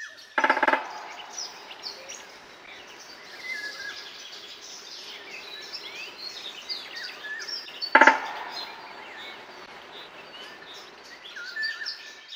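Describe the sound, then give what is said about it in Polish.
Two short, sharp woodpecker bursts stand out, one at the start and one later, with a brief call, over a steady wash of birdsong and chirping in open woodland in Sobibór, Poland. “W takim razie, jak z tą dzięciolą gwiazdą było?”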